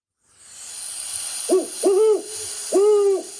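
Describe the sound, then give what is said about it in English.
A great horned owl hoots three times, deep and resonant, a quick pair followed by a longer call after a short pause, over a steady high-pitched hiss of night insects. “So there's that classic. Classic. Hoot. Great horned owl.”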